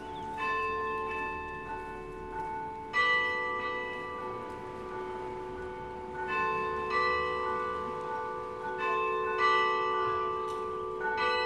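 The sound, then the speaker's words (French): Carillon bells ring out in a melodic sequence in a carillon concert given by Marcel Pérez at 12:15 on 25 July, as a storm rumbles; several bell tones struck every few seconds with long, shimmering overtones that overlap and sustain, with no voices. “12h15, 25 juillet, Marcel Pérez donne un concert de carillon.”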